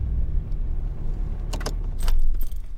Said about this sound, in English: Sorry, the diesel is probably kind of loud on you.